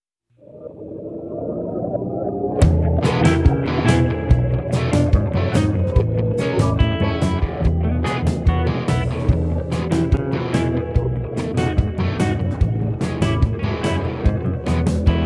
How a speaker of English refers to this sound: the song also has seagull sounds in it.